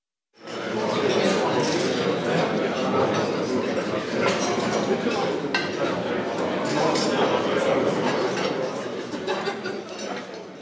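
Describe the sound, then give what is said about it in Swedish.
Busy restaurant ambience in the evening with steady crowd chatter and frequent light clinks of cutlery and dishes, a continuous, fairly loud background wash throughout. “sitter på en restaurang.”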